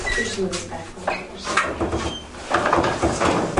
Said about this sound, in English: you can actually close the door at this point.